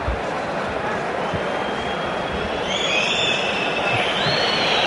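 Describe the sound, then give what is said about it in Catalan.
A steady stadium crowd roar at Sant Mamés during a football match against Espanyol swells into loud, sustained shrill whistling from many fans aimed at goalkeeper Álvaro Fernández for wasting time, the piercing high tones layered over the dense rumble of the crowd. “Xiulets per Aloro.”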